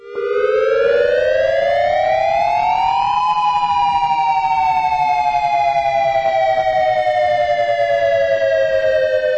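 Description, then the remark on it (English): A civil defense warning siren wails steadily, its tone rising over the first few seconds and then slowly falling, loud and sustained, with no one speaking; it is a real warning, not a drill. “The sirens, and I haven't heard the sirens before, and so I kind of knew it wasn't a drill, and I had always gotten a text message saying that there was going to be a drill, and I knew that it wasn't a drill this time.”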